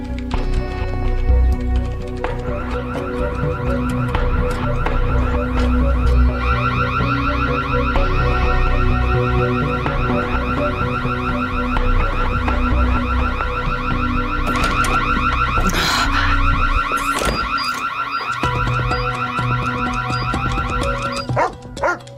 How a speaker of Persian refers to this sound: آژیر امنیتی خونه داره صدا میده، باید برم ببینم چه خبره.